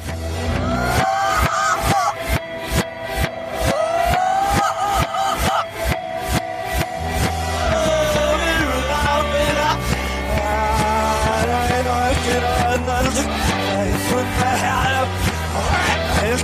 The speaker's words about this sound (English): Song one is from the 1970s. Please tell me the artist and title of this song played backwards.